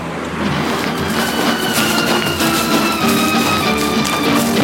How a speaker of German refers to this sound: Warten, Auto kommt und weiter. Noch ein Auto. Weiter. Ups, noch ein Auto. Wieder an die Planke drücken und weiter.